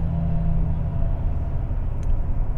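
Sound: car driving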